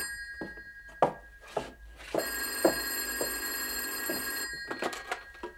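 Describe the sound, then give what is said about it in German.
An old-style telephone bell rings at the Martinshof late in the evening, in a long, bright metallic burst, framed by shorter jangling rings before and after, with some soft knocks in the background. “Ach so, es klingelt ja auf dem Martinshof.”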